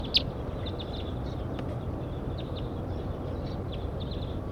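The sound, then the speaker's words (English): A very large flock of birds passes overhead, with about ten or more birds, giving many short, high chirping calls scattered throughout, fairly faint above a steady low rumble of outdoor noise. “Very large flocks flying over now. Two birds at least, three. And here comes about 10 more.”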